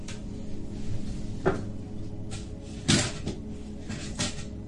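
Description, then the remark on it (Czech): A microphone being knocked over, heard as a few irregular thuds and rattling bumps over a couple of seconds, with the sharpest knock in the middle and softer handling noise around it. “Tady máte o státu, teď mi padá mikrofon”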